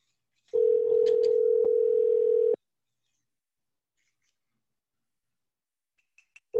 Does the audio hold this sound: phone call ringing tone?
yes